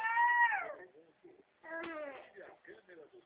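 A small girl cries because she is sitting at the computer and wants to grab the keyboard: a long wail that falls in pitch, a short pause, then a second sharp cry trailing into choppy, whimpering sobs.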